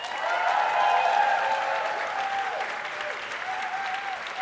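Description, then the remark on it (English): An audience applauds steadily as a vote for Steven Soderbergh's filmography, a dense wash of many hands clapping at once, holding fairly even in loudness throughout with a faint murmur of voices mixed in. “Round of applause.”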